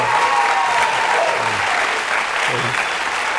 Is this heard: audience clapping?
yes